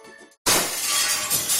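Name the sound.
glass shattering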